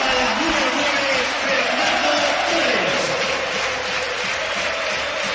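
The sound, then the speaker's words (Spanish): A packed crowd at the Calderón stadium roars in a sustained ovation as Antoine Griezmann is substituted off and Fernando Torres comes on, thousands of voices cheering and clapping in a dense, steady wash of noise that stays loud throughout. “Se retira Antoine Griezmann para el que el Calderón se levanta y ovaciona de esta manera.”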